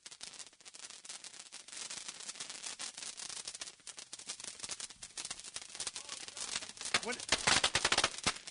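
Dense, crackling fireworks pop off in rapid, overlapping bursts as lit fireworks are thrown into a large pile of fireworks already lit, a continuous rattling barrage that grows louder and more intense toward the end.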